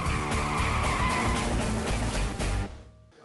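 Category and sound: sound effect, car brakes screeching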